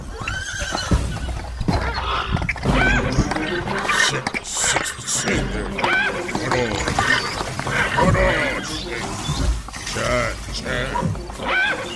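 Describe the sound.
An excited horse neighs and whinnies loudly and repeatedly on seeing a mare in heat, its calls rising and falling in wavering bursts, with people's voices talking and exclaiming underneath.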